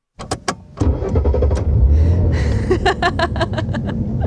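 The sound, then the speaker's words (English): A few sharp clicks, then the old engine of a stripped-down Studebaker car cranks and catches, settling into a loud, rough rumble with a steady, rhythmic clatter of pulses as it runs. “She's a whiskey sick, stripped down Studebaker with what you might call liquid doors.”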